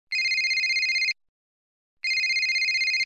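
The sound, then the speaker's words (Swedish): A mobile phone ringtone trills in two bursts of rapid, bright electronic pulses, each about a second long with a pause between, loud with no talking, signalling an incoming call from the phone owner's mother. “Nu ringer min mamma.”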